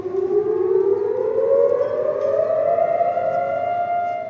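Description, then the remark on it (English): A loud, sustained civil defense siren wails steadily across Israel on Holocaust Remembrance Day, its tone slowly rising in pitch over a constant low rumble of background noise, with no voices present. “Sirens blared across the country, traffic stopped on highways, and Israelis stood for 2 minutes of reflection.”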